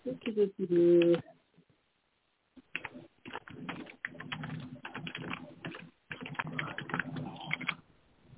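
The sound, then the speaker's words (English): Rapid, continuous clacking of computer keyboard typing over a thin, band-limited line, coming in bursts with short pauses, preceded by a brief muffled voice-like tone at the start. “People should mute themselves when they're typing, please.”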